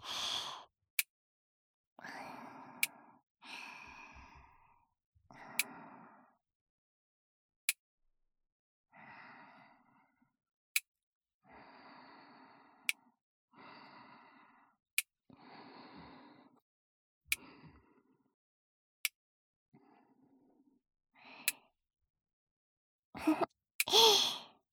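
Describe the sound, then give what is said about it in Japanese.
About a dozen sharp, bright snaps of nail clippers cutting another person's nails, spaced a couple of seconds apart, with soft breathy sighs and exhales filling the gaps between them. “爪を切ってあげるなんて、なんだか子供の頃みたいね。”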